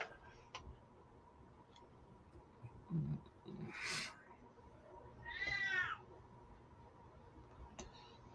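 A female cat lets out a single drawn-out meow, fairly soft, with a few faint thumps and rustles around it, otherwise quiet.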